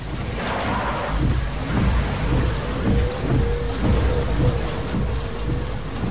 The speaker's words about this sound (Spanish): Es de noche y llueve.